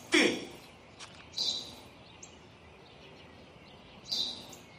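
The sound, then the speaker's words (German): A sparrow chirps three times in short, bright bursts, spaced a second or more apart, over a soft steady outdoor background. No one speaks. “Was ist das? Ein Spatz, Vater, ein Spatz.”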